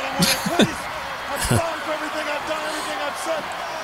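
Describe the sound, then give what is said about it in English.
A few sharp, heavy thuds land in quick succession as a wrestling double knock, the Hogan special, hits Martel, over a steady roaring arena crowd, with a voice talking underneath the noise. “That's a move you don't see now either. Good. The double knock and knock.”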